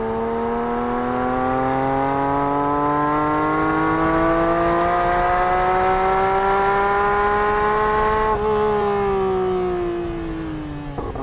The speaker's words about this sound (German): Denn wenn man ehrlich ist, passt die Idee eines offenen GT3 emotional perfekt zur Marke. Hochdrehzahlsauger, Handschaltung, Heckantrieb und dazu jetzt noch der ungefilterte Sound ohne fettes Dach.